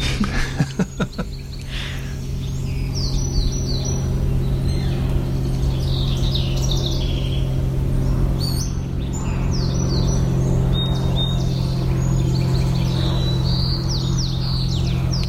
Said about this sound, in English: I hear a float plane and a song sparrow.